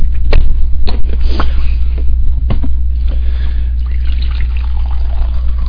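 Coffee pours into a cup, a steady liquid trickle with a few sharp clinks and splashes over a constant low hum, and nobody speaks.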